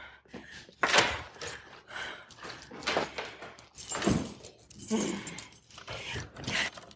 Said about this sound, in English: I need the keys. Keys.